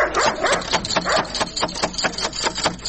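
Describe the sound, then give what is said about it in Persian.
A dog at the gate of a house barks in a rapid, steady series of sharp yaps, fairly loud, continuing throughout with no one speaking. “اوهو، این چی سگ خطرناک داره که نخوری ما.”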